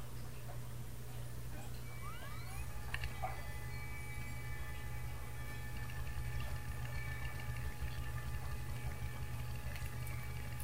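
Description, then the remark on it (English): A small indoor fountain gurgles and sputters steadily as if running low on water, over a constant low pump hum with a faint thin whine at times. “Pour a little more water in that fountain. It's breathing very hard.”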